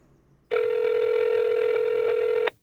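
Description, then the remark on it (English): A loud, steady telephone tone holds one unbroken mid-pitched buzz for about two seconds, then cuts off abruptly, as a call is placed to the people in charge of California's water. No voices accompany it. “After I staked my claim, I tried calling up the people in charge of California's water, just to make sure everything was cool.”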